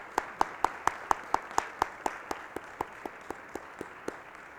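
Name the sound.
audience applause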